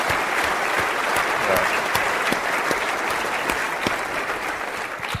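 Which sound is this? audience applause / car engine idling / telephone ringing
audience applause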